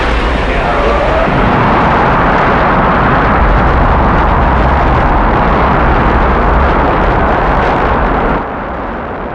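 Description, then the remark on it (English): Rocket main engines ignite at launch after a countdown into a loud, continuous, crackling roar with heavy low rumble, holding steady for several seconds before abruptly dropping to a softer level at the end. “Roger. We have main engine start.”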